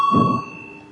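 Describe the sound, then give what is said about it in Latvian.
A parliamentary voting bell, rung before a vote on the first proposal of the Education, Culture and Science Committee, sounds as a single sustained electronic chime, starting sharply and ringing steadily, with a brief low thump near the beginning and no talking. “Lūdzu zvanu, balsosim par pirmo izglītības, kultūras un zinātnes komisijas priekšlikumu.”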